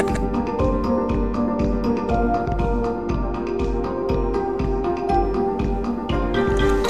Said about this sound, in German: Das, was du jetzt so schön rauschen hörst, sind zwei Fontänen.